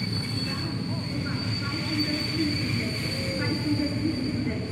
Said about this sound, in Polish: A nie, żebym się tłukł pociągiem, jak jakiś studencina.